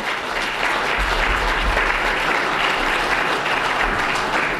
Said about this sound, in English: Round of applause.